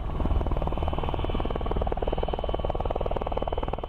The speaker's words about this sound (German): und dem Nordwesten von Thüringen waren russische Hubschrauber aus dem DDR-Grenzregiment Heiligenstadt und des Bundesgrenzschutz auf der Westseite Tag und Nacht im Einsatz.